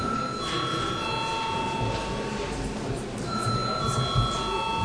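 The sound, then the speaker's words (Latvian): An electric session bell in Latvia's parliament, the Saeima, rings at the close of the 8 December sitting's agenda, with a steady, high buzzing tone in two long stretches, a short pause between them, over a low murmur of many voices. “Pirms, jā, lūdzu zvanu.”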